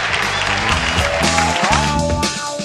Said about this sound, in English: Then that's where you cue the cheering.